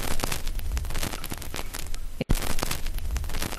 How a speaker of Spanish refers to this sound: Seguro que te suena, y nunca mejor dicho, es el sonido del crepitar de un vinilo antiguo. ¿Cuántos recuerdos nos evoca, verdad? Ese tocadiscos, ese plato, ver bajar la aguja.